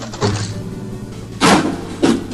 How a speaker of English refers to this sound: We've got guitar smashing.